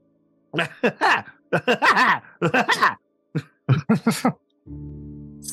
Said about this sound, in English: While he's staving off the poison, hitherto Dorian begins coughing up blood.